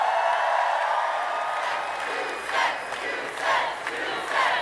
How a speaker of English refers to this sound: And it's a pretty wild thing to see a crowd chanting about a tax rate. Right. It's kind of become, to go back to the Trump comparison, Warren's build the wall.